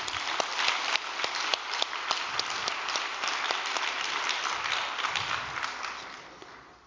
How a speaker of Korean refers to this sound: 오늘도 우리 천일국 세계 지도자들께서 자리에 함께 하셨는데 하루 종일 회의하시고 피곤하시고 힘드신데도 이 천심원 정성에 오신 우리 각 대륙의 회장님들 또 천일국 지도자들에게 우리 감사의 박수 한번 올려드리겠습니다.